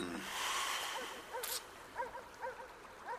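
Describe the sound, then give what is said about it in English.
A dog lets out a string of short, high whimpering yelps, spaced about half a second apart, faint against a soft steady hiss. “Did you hear that dog? He sounds lonely.”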